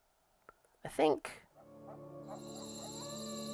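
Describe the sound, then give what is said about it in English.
After a short, loud voice-like burst, a steady bed of high, thin cricket chirping fades in and holds, a shimmering continuous trill that grows slightly louder toward the end. “I think these crickets sound a little thin, and if you bring them up...”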